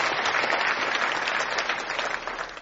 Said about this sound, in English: So give a hand clap to Jesus.